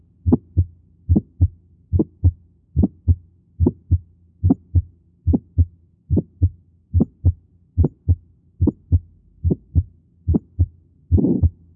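Heart sounds of pulmonary hypertension from a stethoscope recording beat in a steady rhythm, the first and second heart sounds as low thumps in regular lub-dub pairs, with a harsher murmur-like burst at the very end. No one speaks.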